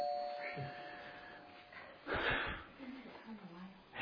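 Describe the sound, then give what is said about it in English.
A doorbell chime rings with a steady, sustained tone for a couple of seconds, followed by a brief rustling bump and some low, indistinct voice sounds in the background. “We can give thanks for doorbells.”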